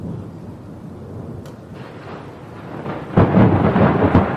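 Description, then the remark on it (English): A deep, rumbling roll of thunder builds under steady pelting rain and howling wind of a hurricane, then a louder crack of thunder bursts in near the end, with the storm continuing around it. “Dark skies flash with blue-green lightning in the howling winds and pelting rains of the hurricane.”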